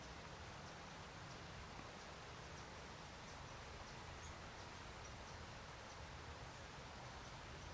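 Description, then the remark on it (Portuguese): Steady rain falls continuously, a dense, even hiss with faint scattered droplet patter, with no voices or other sounds. “Now the rain comes.”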